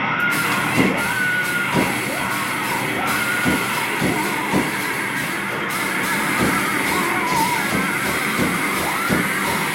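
people screaming

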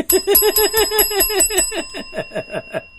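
bell ringing

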